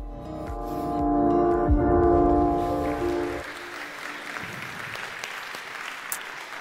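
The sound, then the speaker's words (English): A loud, sustained tonal chord rings for a few seconds, then cuts off as an audience breaks into steady applause, a dense patter of clapping that continues at moderate volume to the end. “They did a great job, and we did it all to get that applause.”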